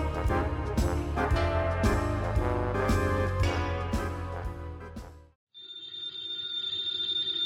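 Loud, busy orchestral music plays, then breaks off for a brief moment of silence before an old-fashioned telephone bell starts ringing, a bright, continuous metallic trill, in a Nero Wolfe mystery radio show.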